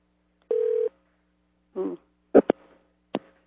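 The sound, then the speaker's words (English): Telephone keypad dialing tones as someone dials to try calling a person once more: one steady electronic beep lasting under half a second, then a few sharp, brief clicks and blips spaced irregularly, with no talking. “And I'll try LaVarne once more.”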